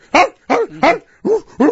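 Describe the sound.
A person barks like a dog five times in quick succession, loud, with short regular gaps between each sharp bark and no talking.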